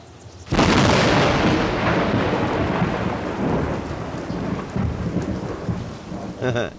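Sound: thunder and rain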